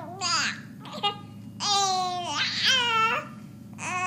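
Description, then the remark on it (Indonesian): A baby not yet able to talk babbles in a series of bright, wavering vocal bursts with pauses between them, fairly loud, sounding almost like whiny cooing but forming no real words. “Bayi Anda masih belum bisa bicara.”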